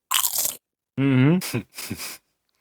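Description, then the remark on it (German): A loud, dry crunch of potato chips, then a short voiced hum and two more crisp crunching bites, each burst brief and crackly. “Boah, ich muss jetzt echt diese Chips wegstellen, sonst greife ich dabei immer rein.”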